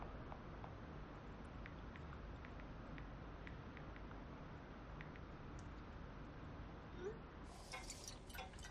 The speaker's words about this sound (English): Gabby pours herself a glass of wine.